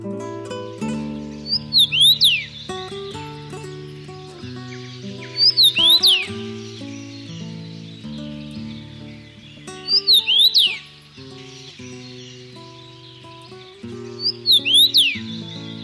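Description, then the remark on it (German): A common rosefinch sings a short, bright whistled phrase about every four seconds, repeated four times, over a steady layer of soft background music. “Das war der Kamingimpel.”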